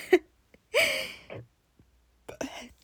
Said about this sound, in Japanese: やばい、ちょっとゲップ出そう。